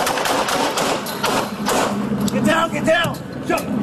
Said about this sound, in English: Get down. Shots fired. The officer needs help.